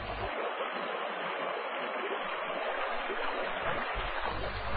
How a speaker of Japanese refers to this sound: 古来より川の合流するところは清らかな瀬音たち、修験者の間では聖地と見なされるから、道場をこうした地へ求めることも多い。